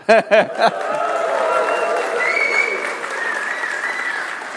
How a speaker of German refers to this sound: Wir müssen also vom Applaus wieder was zurücknehmen.